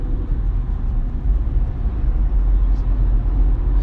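Steady low road rumble of a car driving past a roadside wreck, a continuous dense drone from inside the moving vehicle with no pauses, no speech, and no distinct events rising above it.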